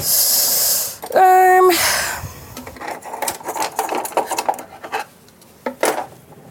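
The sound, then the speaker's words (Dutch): Cutlery being picked up and handled, with a brief ringing metallic tone followed by a scattered series of light clinks and clatters, irregular in rhythm and fairly quiet. “Wat ligt dat bestek hier?”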